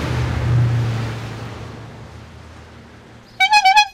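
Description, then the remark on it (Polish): A quick run of about four loud, nasal honks from the horn of an old red bicycle, its frame about 40-odd years old, sounds right at the end, after a few seconds of steady, rushing background noise with no talking. “Ma tu taką fajną trąbkę.”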